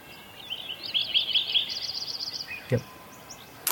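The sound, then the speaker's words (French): In a meadow in the Sierra Nevada mountains in the early morning, a bird sings a quick series of bright, repeated whistled notes that rise and fall over a quiet outdoor background, with a soft knock near the end and no one talking. “And it's a early morning sound.”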